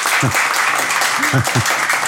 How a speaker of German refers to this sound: Dein Applaus, Helge.